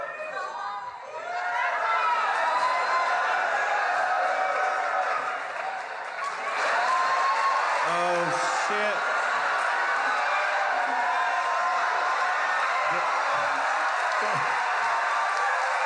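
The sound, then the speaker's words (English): A large crowd applauds and cheers loudly and steadily for about sixteen seconds, with whoops, shouts and excited voices rising over dense, continuous clapping. “This is the most applause you've ever gotten.”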